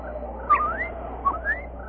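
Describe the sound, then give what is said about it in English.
Two clear, bird-like whistled calls of a blue and crimson bird, each sweeping quickly upward, repeat about a second apart, moderately loud above a low, steady background hum. “And now, oh, look. A bird. A beautiful blue and crimson bird.”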